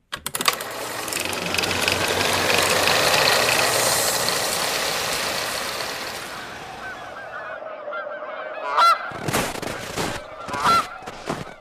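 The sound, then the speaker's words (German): A flock of geese that stayed behind honks in a dense, overlapping chorus in bitter December cold, then thins out to a few loud honks in short bursts near the end. No one speaks. “die Gänse sind hier geblieben.”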